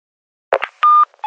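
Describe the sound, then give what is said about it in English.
A short clatter like a receiver being picked up, then a clear, steady electronic beep from a company's answering machine before recording, followed by the start of another tone. “A message on a company answer phone.”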